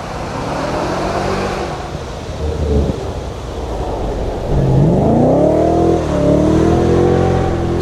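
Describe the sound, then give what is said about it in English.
A highly modified MG's V8 engine roars past on a race track, its deep rumbling harmonics sweeping up in pitch as it accelerates hard, then holding a strong, throaty drone. “Once again, a beautiful V8 sound as he thunders past.”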